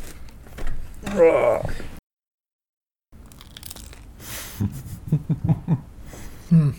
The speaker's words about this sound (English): I just crunched my crust, and I saw it appear on the screen. Just spiked up. A little bit.